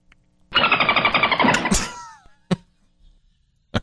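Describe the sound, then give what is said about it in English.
A person's vocal dolphin impression: a loud burst of rapid, buzzing clicks that ends in a few quick, squeaky whistles sliding downward. Two sharp taps follow in silence. “I can do, I do a great dolphin.”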